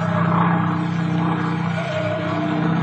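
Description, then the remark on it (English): A steady, loud propeller-engine drone fills the whole stretch, a continuous low hum with a rough, throbbing texture, like riding inside a small airplane in flight. “You got a nice airplane, but it wasn't built for this kind of stuff.”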